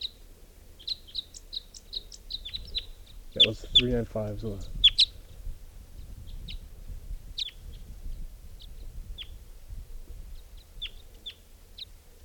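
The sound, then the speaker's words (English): High, thin chirps and song phrases of wild male birds repeat throughout, with several birds calling in short bursts; a man briefly speaks in the middle over low background rumble. “It's recording the wild males in song.”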